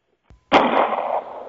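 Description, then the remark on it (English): A sharp, loud gunshot bursts out after a brief faint click, its harsh blast ringing and fading over about a second. No voices. “By now you ought to be dead. That's 2 gunshots, okay?”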